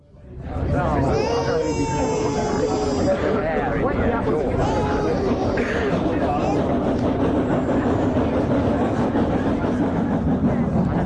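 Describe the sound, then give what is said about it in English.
A steam train rolls steadily along the rails, a loud, continuous rumble and clatter, with high squealing, whistle-like tones rising over it in the first few seconds. “There's a train in 20 minutes.”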